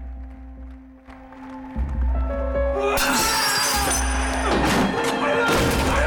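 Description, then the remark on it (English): A man smashes up a bathroom: after a few seconds of low humming, loud crashes and bursts of shattering glass and ceramic follow one another over a steady drone. “He smashes up the bathroom.”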